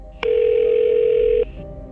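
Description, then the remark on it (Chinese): A telephone dial tone hums steadily for just over a second, clear, with a faint click as it starts and stops, as a man eagerly places a phone call. No one speaks. “王万林这才长长地吁了一口气，而后他迫不及待地给罗宾打了电话。”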